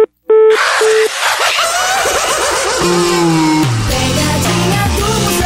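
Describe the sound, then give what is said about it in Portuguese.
Two short, steady electronic beeps of a disconnected phone line sound clearly after the other party hangs up, then give way to a loud, busy wash of rumbling, revving noise with sweeping tones. “quando eles desligam o telefone é porque eles estão bravos”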